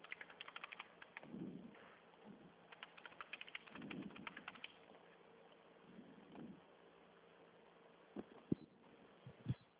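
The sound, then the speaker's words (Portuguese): Bursts of quick, light clicking from a computer keyboard, typed in short flurries with pauses between, faint against a low background rumble, with a few sharper taps near the end, as an agent on a call runs a financing simulation. “esse é um teclado.”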